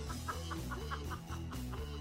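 A bird sound effect of rapid, rhythmic clucking, about eight evenly spaced calls over a steady low droning backdrop, fairly loud and with no talking.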